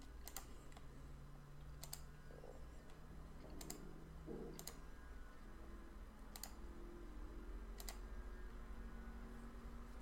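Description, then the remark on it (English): Sparse, crisp computer clicks and keyboard taps land at irregular intervals, fairly quiet, over a steady low electrical hum with no one talking, as a magazine is being queued up on the computer. “Looks like Band is doing well, just kind of clicking through.”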